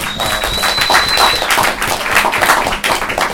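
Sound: round of applause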